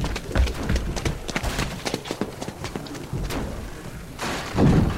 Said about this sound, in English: Where's that one coming from? Lobby door! There's rubble against it, and they're still pounding on it!